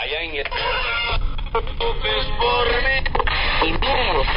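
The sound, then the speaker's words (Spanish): A small portable radio tuned to FM plays a steady, band-limited mix of music and voices. Its tinny sound stays loud throughout, with brief dropouts and shifting tones as the tuning slips while it is jostled. “Estaba bien sintonizado, pero como lo vengo aquí sangoloteando, pues ya lo...”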